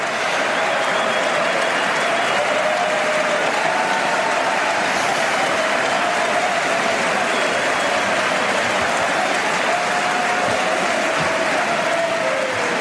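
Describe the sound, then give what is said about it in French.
Sustained applause from a large crowd of US Congress members after Emmanuel Macron's speech before the American Congress, a dense, steady clatter of clapping that continues without pause for the whole stretch, loud, with faint murmurs underneath. “Vous l'avez entendu, un discours longuement applaudi par les congressistes américains.”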